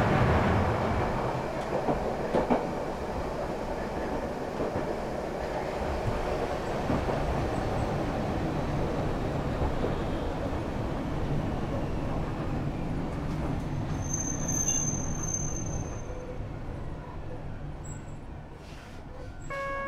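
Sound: tram running on rails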